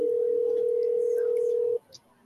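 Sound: telephone dial tone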